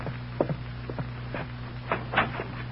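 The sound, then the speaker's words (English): A series of footsteps of someone approaching, about six soft thuds at an uneven walking pace, growing slightly louder toward the end over a steady low hum, with no voices. “Somebody's coming.”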